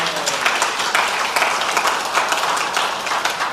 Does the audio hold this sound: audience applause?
yes